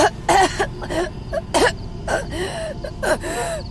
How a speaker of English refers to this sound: Suddenly, she started coughing.